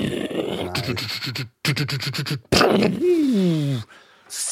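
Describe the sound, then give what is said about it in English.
A person vocally imitates World War II tank battle noises: growling engine rumbles, rapid staccato bursts like gunfire, a loud explosive blast, then a descending whine fading into hiss. “You're like beatboxing, but for World War II.”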